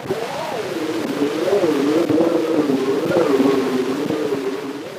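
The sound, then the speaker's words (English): An old, hissy recording of an elevated railway, dominated by a continuous droning hum from vibrating girders whose pitch slowly wavers up and down at a steady loudness, with no voices. “The vibration of girders that were holding up the railway, it could be that we're hearing those.”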